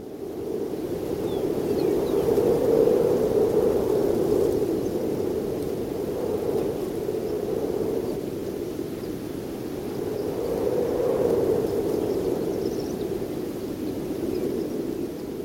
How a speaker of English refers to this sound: This is this happens to be from New Mexico at a barbed wire fence. He recorded the sound of wind, that sort of breathy whistle changing its pitch as it changes speed. Microphone low to the ground. Here it is.